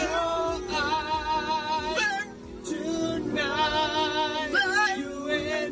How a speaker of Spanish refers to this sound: Escucha este dueto entre un perro y su dueño que revoluciona Internet.